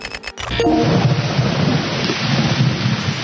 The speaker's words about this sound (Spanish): Lluvia total, el diluvio, el viento y el granizo no dieron tregua en Buenos Aires.